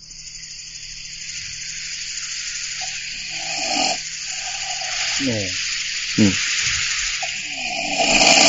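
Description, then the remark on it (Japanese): A person imitates loud snoring with a rough, rattling voice, giving a few drawn-out snorts over steady background hiss, one harsh burst standing out near the end. “そんな、いくらなんでも人間のいびきですからね。”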